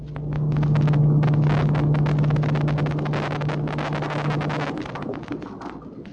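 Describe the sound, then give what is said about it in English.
Submarine trim pumps run with a steady low hum under dense, churning mechanical rattle. The hum cuts out near the end, leaving a fading rumble. No one speaks. “Or trim pumps.”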